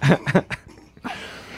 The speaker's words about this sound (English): I'll talk about Batman, but I got to clear my throat first